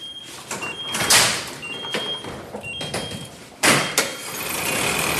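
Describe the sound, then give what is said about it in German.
A large garage gate is opened quickly, rattling and grinding over several seconds, with a loud clanking burst near the start and another jolt partway through, a low engine hum running underneath. “Ja, Ich mache jetzt ganz schnell das Tor auf.”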